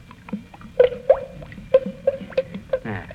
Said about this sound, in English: I go by the gloves. By the what? The gloves. You notice when you pour the paint out, how it goes glub, glub, glub?